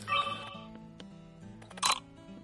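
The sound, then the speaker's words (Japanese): A compact camera powers on with a faint electronic chirp and brief mechanical whir as its lens extends, followed a moment later by a single crisp shutter click over a low background hum. “だがまあこいつはそんなことよりもコンパクト、そして速い起動、電源を入れてからシャッターを押すまで、電源を入れた時の微妙な音を聞いてくれたまで、そしてシャッターが切れるパチッという音を、はっきり分かりやすくするためにシャッターの音を出すようにしてみようじゃないか。”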